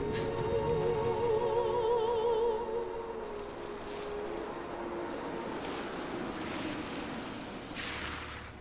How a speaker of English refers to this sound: The atmosphere is miserable and subdued, like the rain beating down on them from outside.